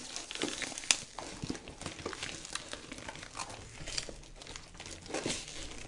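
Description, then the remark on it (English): Packing tape being torn and pulled off to open a package, with steady crinkling and crackling of plastic wrapping and a few sharper ripping snaps, with no one talking. “This is the most powerful tape.”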